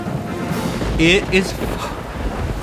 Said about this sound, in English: It is awful. Awful weather. It has rained and rained, and then it rained a little bit more. And, it's going to stop. It's going to stop.